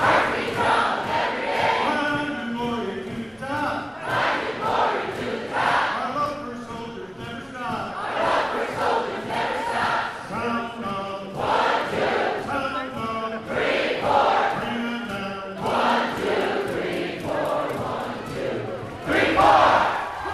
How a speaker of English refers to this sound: It's like a big game is about to begin in the JCC gymnasium. The bleachers are filled with people in yellow shirts cheering and holding huge foam fingers. Cheerleaders shake their pom-poms.